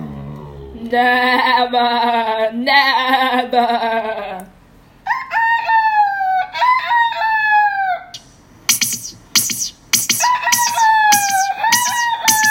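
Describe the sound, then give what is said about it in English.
A rooster crows loudly and repeatedly, several long, strained cock-a-doodle-doos in quick succession, harsh, with brief pauses between calls and no talking. “What are you doing, Mr. Rooster?”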